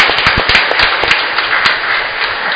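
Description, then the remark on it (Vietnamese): A loud round of applause from a parish audience at Mass congratulating two priests, dense and sustained, with sharp individual claps standing out early on, continuing steadily without any voices. “Chúng ta chúc mừng hai cha một tràng vỗ tay thật lớn.”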